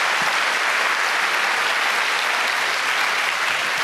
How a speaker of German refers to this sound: Dann vielen Dank auch an die Jugendhack-Teilnehmer aus dem Bereich Überwachung und Datensicherheit. Dankeschön, das nochmal euer Applaus.